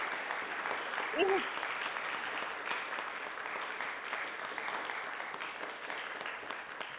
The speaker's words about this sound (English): Yes, lovely. She deserves so many round of applause for that.